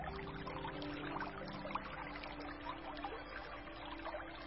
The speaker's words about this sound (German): Dein Herz hat dich hierher geführt. Dein Herz hat das Plätschern gehört.